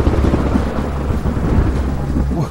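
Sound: thunderstorm with loud thunder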